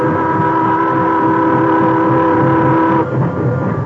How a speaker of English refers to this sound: When the time came, he went aboard with the others, and the train started.